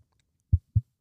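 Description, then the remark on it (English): A few dull, low thumps strike in an even rhythm, fairly loud, with a heartbeat-like pulse as a disc golf disc is tapped. “The heartbeat. That heartbeat type disc.”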